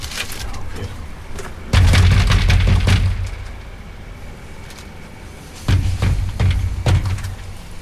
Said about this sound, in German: Klopf doch vielleicht einfach mal. Ja, weil es Klopfen mehr bringt. Ja, viel persönlicher.